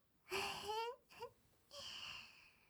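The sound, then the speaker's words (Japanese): A child's voice imitates a baby crying while playing the baby in a pretend game: a loud wailing burst with rising pitch, a short whimpering catch, then another drawn-out wail, with no talking. “赤ちゃん役やる？じゃあ、赤ちゃんね、赤ちゃん。”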